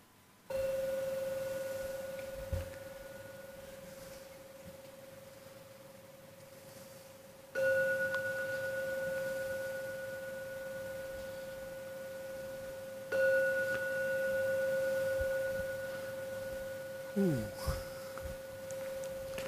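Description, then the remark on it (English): A meditation gong is struck three times to close a meditation, several seconds apart. Each strike sets off a steady, pure ringing tone with a higher overtone, humming on and slowly fading before the next. “So now I'm going to ring the gong 3 times.”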